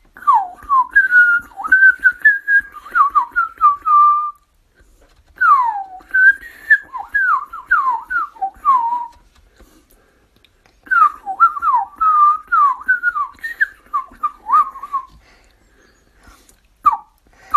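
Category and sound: bird, blackbird song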